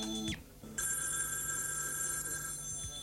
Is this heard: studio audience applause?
no